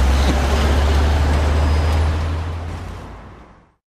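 Steady roar of heavy rush-hour road traffic, cars and larger vehicles rumbling past with a deep low hum, loud throughout before fading out toward the end. No one speaks.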